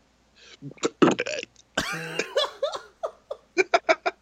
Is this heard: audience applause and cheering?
no